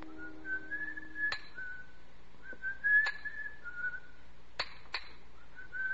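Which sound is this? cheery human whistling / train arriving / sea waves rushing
cheery human whistling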